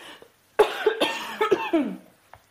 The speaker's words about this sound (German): Falls Ärzte unter euch sind, könnt ihr am Sound meines Hustens erkennen, was das ist? Dann muss ich nicht extra laufen.